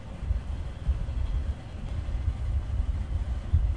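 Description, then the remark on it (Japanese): A heavy, steady low rumble of a six-car passenger train crossing a steel railway bridge, heard from inside the train, with a few dull clanks breaking through the continuous roar. “まもなく鉄橋の上を通ります。お待ちください。”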